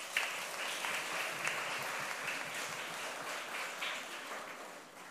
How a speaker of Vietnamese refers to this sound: Nếu các con cảm thấy làm được á, thì cho một tràng vỗ tay nào.